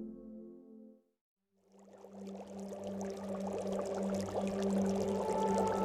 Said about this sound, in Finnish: Partasuinen mies kaataa viimeisen ämpärillisen virtsaa pataan, jossa sitä on jo satoja litroja. Viikkoja vanhaa, haalistunutta virtsaa, joka on seissyt auringonpahteessa. Haju on sietämätön.